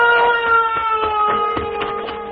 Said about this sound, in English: Do you hear that bell?